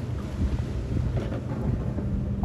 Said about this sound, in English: Oh, here we go. Jet skiing now.